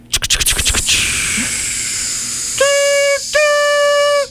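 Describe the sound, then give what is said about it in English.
The Polar Express steam train, with Tom Hanks at the front, hisses loudly, opening with a quick burst of sharp chuffs that settle into a steady rushing hiss, then two long, bright whistle blasts sound over it. “Yeah, but does anyone know what this train is?”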